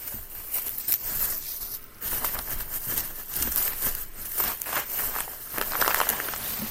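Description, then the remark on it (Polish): Steady crinkling and rustling of thin plastic foil packaging as individually wrapped items are handled and pulled open, with irregular crackles and brief tearing sounds throughout and no talking. “Każda rzecz jest zapakowana osobno w folię.”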